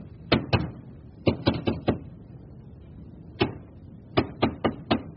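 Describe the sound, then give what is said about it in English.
Sharp knocks from someone behind wooden wall paneling between a parlor and a staircase come in uneven bursts: two raps, a quick run of four, a single knock, then four more. Each one is crisp, with quiet pauses between and no talking. “There's someone behind the paneling.”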